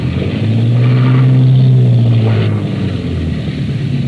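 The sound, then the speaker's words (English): A loud, steady engine roar with a low droning hum that rises and holds, from powerful boat engines running full astern as the boat docks at a wharf in the rain. No voices. “All back full.”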